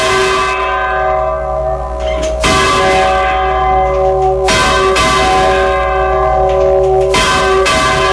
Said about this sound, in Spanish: Y a los toques de campana, por eso los toques de perdido, se hace un volteo muy lento, muy lento. Porque el toque de campana lento, pues se deja oír muy a lo lejos. Y por eso el volteo de campana lento se hacía para perdidos.